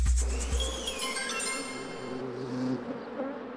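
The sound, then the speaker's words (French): A bee buzzes steadily, its droning hum wavering slightly in pitch for a few seconds with no voices present. “La petite abeille lui avoue tout.”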